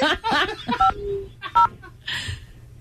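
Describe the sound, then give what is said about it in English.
Two short telephone keypad dialing beeps sound clearly, spaced well apart as an uncle dials very slowly, amid voices and a bit of laughter, with a softer hum of noise near the end. “It's like 10 seconds in between each button. The phone's like, uncle, come on.”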